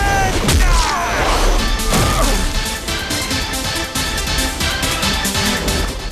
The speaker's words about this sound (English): The combatants get to their feet, and Liu Kang lands a combination of punches and kicks on Shao Kahn. He delivers a flying kick to Shao Kahn.